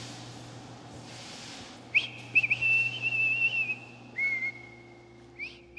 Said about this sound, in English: Please stop whistling. Will you please stop whistling? It goes through me, please. Like, really stop. Like, stop it.